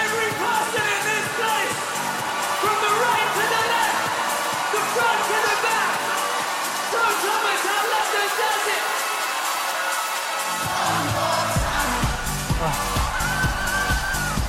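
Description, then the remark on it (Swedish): A concert crowd cheers and roars steadily for the whole stretch, loud and dense, with music blending into the noise and a deep rumble swelling in toward the end, as the venue's soft fabric roof is pulled up and raised. “Lyssna publiken nu.”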